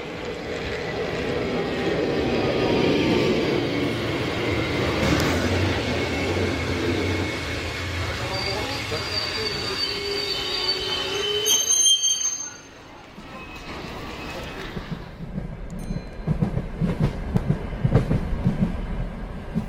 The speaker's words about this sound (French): Mesdames, messieurs, votre train intercité numéro 6243 à destination de Bordeaux-Saint-Jean accuse actuellement un retard de 30 minutes. Je répète, le train à destination de Bordeaux accuse